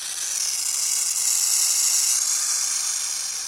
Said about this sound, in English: Yipes! The hiss of a burrowing owl sounds just like a dangerous rattlesnake, which is a great way to scare off potential predators.